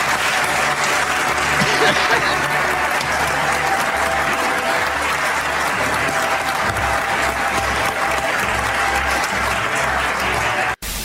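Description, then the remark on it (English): A large audience at a speech in Indiana gives itself a standing ovation, clapping steadily and loudly in a dense, continuous roar of applause that holds for about ten seconds before cutting off abruptly, with no clear voices above it. “They gave themselves more than a minute standing ovation.”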